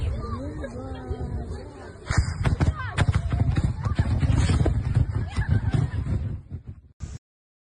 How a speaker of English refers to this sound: Yeah, this is clearly, this is what a cluster bomb would do. Listen to it again. There's a big slap and then pop, pop, pop, pop, pop, pop, pop, pop, pop.